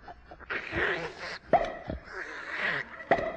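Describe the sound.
A person on hands and knees sniffs the rug noisily in two long, snuffling bursts, each a rush of breathy hiss broken by short sharp snorts, imitating a bloodhound's eager sniffing.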